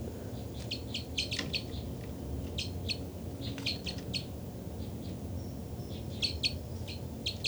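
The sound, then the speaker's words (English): Bursts of high, bright calls from two birds, numbered 273 and 274, repeat in short clustered series, several quick notes per burst, over a steady low rumbling background with no voices. “273 there. Both birds. 273, 274 responded.”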